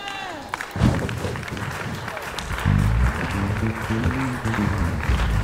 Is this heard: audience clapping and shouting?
yes